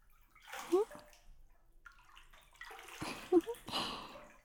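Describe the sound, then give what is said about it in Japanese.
Bath water sloshes and splashes in a few uneven bursts, with quieter trickling between them and two brief louder swirls, moderately loud and otherwise without talk. “ほら、お風呂から出て。”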